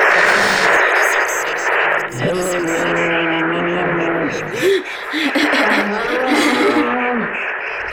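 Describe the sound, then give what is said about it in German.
A sonification of the Ursa Major constellation plays: layered, sustained electronic tones that hold and bend in pitch over a steady, noisy hiss, fairly loud and continuous for the whole stretch. “Wollt ihr jetzt hören, wie der Große Bär klingt?”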